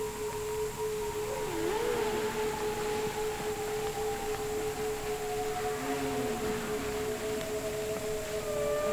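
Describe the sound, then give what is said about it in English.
Eerie vocalizations of a whale in the Hudson River: wavering, sliding moans rise and dip twice over a steady sustained tone and a constant underwater-like hiss, with no one talking. “We are now joined by our friend Henry the Hudson Whale.”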